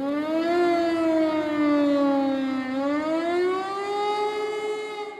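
An air-raid siren in Berlin, set off by pressing a button in a small cabinet opened with keys, wails steadily, its tone rising, dipping low around the middle, then climbing again in a slow, mournful sweep. The sound is loud and sustained with no voices present.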